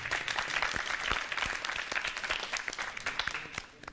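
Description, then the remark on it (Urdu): Steady applause from a sizable audience welcoming a Team C contestant, dense overlapping claps sustained for a few seconds at moderate volume, tapering slightly at the end. “ان کے استقبال کے لیے بھی تالیاں ہونی چاہیے.”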